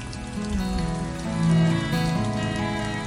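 Steady rain pours down in a dense, continuous hiss, mixed with sustained low musical tones that swell briefly in the middle. No one speaks.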